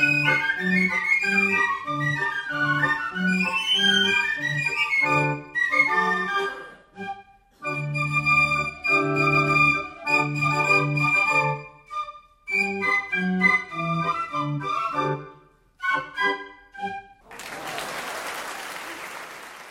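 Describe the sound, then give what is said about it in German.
A carnival (Fasnacht) fife band, the pipers of the Rotstab-Klicke, plays the march '25er' at the Rotstab-Kabarett 2012 premiere: shrill, high piccolo melodies over a steady pulsing beat, pausing between phrases, then ending as loud applause breaks out. “Da haben wir gerade den 25er gehört von den Pfeiferinnen und Pfeifern von der Rotstab-Klicke.”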